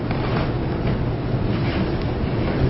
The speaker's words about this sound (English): I think that's kind of noisy. It's the air conditioner that's making the noise. I can turn that off.